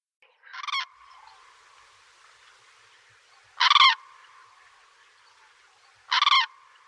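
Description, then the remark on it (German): A common crane gives three loud, rasping trumpet calls, evenly spaced a few seconds apart, ringing out over a faint steady background with no one speaking. “Also so ein schöner Vogel, der Kranich.”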